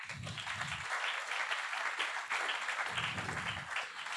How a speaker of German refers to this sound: Kommt doch mal nach vorne, ihr kriegt auch einen Applaus.